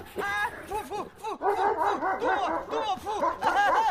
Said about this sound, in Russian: Труфальдино исчезает в проеме дверей. Из темноты слышится грозный собачий рык и душераздирающий крик Труфальдино.